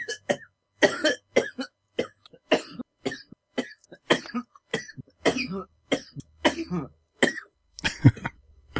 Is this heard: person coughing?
yes